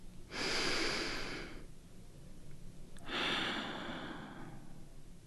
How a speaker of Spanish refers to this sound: Centra tu atención en tu respiración. Respira de manera serena.